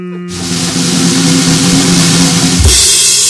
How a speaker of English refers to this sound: The one that I have to back up my car, though, so you can load with a high low to get in there.